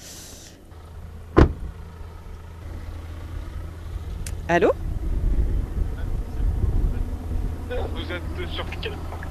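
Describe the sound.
Light wind rumbles steadily outdoors at an airport, a low continuous buffeting that swells slightly over time, with a brief sharp click and short bits of a person speaking on a phone.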